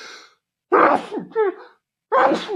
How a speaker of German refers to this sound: Kennt ihr das, nee. Wenn ihr merkt, ihr müsst niesen und dann den Satz noch schnell fertig bringen müsst? Bin immer schneller.